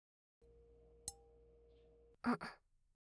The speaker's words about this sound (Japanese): ではでは、乾杯。